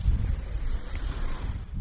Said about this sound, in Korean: 바람 소리와 섞여 있는 이 파도 소리. 노스캐롤라이나 주에 있는 아우터뱅크스라는 바닷가에서 들려드리는 파도 소리입니다.